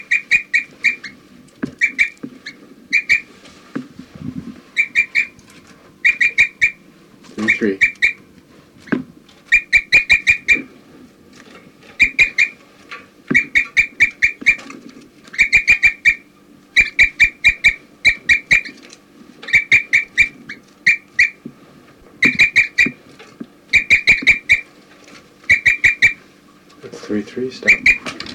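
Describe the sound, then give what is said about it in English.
A bird labelled 4-3, within a flock where birds 4-3 and 3-3 are calling, chirps in quick bursts of short, high repeated notes, grouped in clusters with brief pauses between, fairly loud, over a low murmur of background sound. “4-3 occasionally chirping in.”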